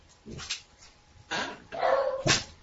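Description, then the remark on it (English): The speaker's own dogs bark several times in quick, irregular bursts, with a higher whiny yelp mixed in; no talking over them. “I have to find out what my dogs are barking at.”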